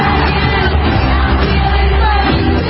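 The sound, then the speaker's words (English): A huge crowd of Seahawks football fans roars continuously in a stadium, thousands of voices cheering and yelling together in a dense, loud wall of sound that holds steady without any single voice standing out. “One very similar outcome, both have caused seismic activity thanks to their cheers.”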